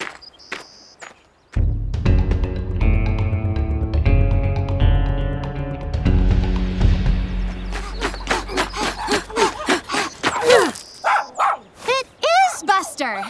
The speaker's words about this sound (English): See? That's him now. I know it. Buster has a very distinct bark. He literally sounds like every other dog on the planet.